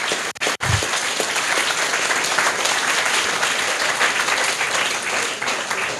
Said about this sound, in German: Naja, auf jeden Fall eigentlich müssten Sie jetzt sehen, dass Sie sehr laut geklatscht haben.